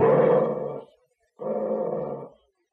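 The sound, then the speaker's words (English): A dog named Bullet growls on command twice, two deep, rumbling snarls of about a second each separated by a short pause, loud with no other sounds around them. “Now, growl, Bullet.”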